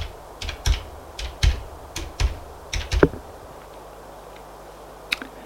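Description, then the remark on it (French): A phone number being dialed: roughly ten sharp, dry button clicks in an uneven quick rhythm over three seconds, then a pause and one final click. No voices. “Alors il prend son téléphone et fait le numéro de Gilbert.”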